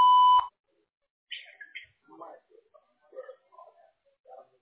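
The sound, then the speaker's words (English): A single short, loud electronic beep from a phone answering system's voicemail prompt rings out at the very start, a steady tone under half a second long, followed by quieter scattered vocal sounds. “To connect and talk, just say your name and what you're calling about after the beep.”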